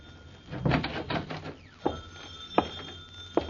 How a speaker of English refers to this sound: Uh-oh, the phone.